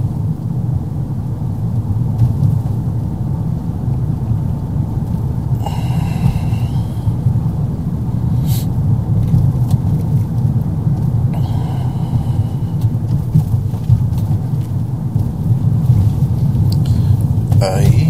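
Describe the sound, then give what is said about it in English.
Howling wind roars steadily and loudly for the whole stretch during a whiteout snowstorm while driving on a slippery road, a deep, continuous rumbling rush with a few brief bursts of brighter hiss rising over it. “I'll tell you what, it is howling wind right now.”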